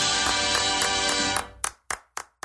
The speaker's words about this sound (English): Clap for that, you stupid bastard.